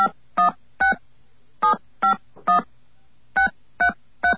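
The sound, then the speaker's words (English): Nine short, bright telephone keypad beeps dial a disconnected phone number, area code first, into 9X's Call Mover Recording System, in three quick groups of three, each tone crisp and evenly spaced, with brief silences between groups and no talking. “Please dial your disconnected phone number now with the area code first.”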